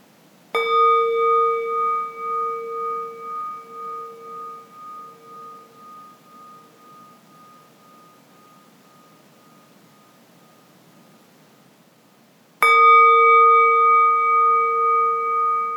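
Two strikes of a gong during a guided relaxation, about twelve seconds apart, each ringing out with a clear sustained tone that slowly fades with a gentle wavering pulse; no voices.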